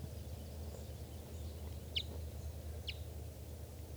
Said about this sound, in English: This bird, I think, is a male. And there's another bird around here chittering. Which looks like a female. I'm not sure.